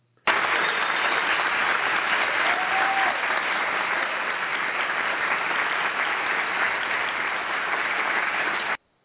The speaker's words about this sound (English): Everybody in the studio is clapping. This is their favorite part of the show, Contender or Pretender.